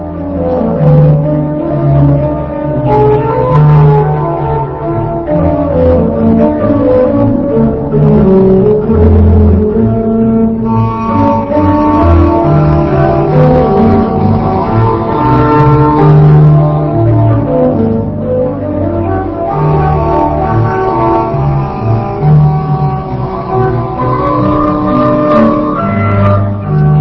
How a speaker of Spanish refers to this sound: Apreciar las distintas partes musicales, las distintas voces, que están todas ejecutadas por únicamente las dos manos de un solo organista.